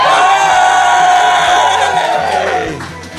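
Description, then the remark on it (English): An audience at a live recording erupts in loud, sustained cheering and shouting after being asked to make noise if they live north of the river, many overlapping voices whooping and yelling at once; the roar holds steady for a few seconds before starting to fade. “Make some noise if you live north of the river.”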